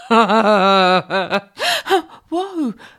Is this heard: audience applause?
no